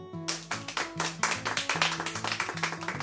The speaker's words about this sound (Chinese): 帅啊莱诺，大家拍手啊。